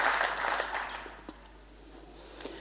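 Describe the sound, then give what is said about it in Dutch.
Audience applause for a group asked to stand up, a dense patter of many hands that is strongest at the start and then thins and fades to a soft, scattered clapping. No one speaks over it. “Kunnen we jullie ook even een heel terecht applaus geven?”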